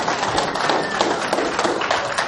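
A church audience applauds the speaker's son together, a steady wash of many hands clapping at once, dense and fairly loud, holding an even level from start to finish with no voices standing out.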